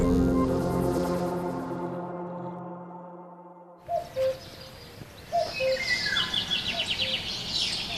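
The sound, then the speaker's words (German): A low, sustained tonal drone fades out, then a dense dawn chorus of birdsong begins, many birds chirping and trilling together in bright, overlapping calls. “Egal ob Kuckuck, Pirol, Möwe oder Spatz, das Morgenkonzert der Vögel ist ein emotionales Erlebnis und kann gleichzeitig der Wissenschaft dienen, betont Anke Michaelis von der Stiftung Kunst und Natur.”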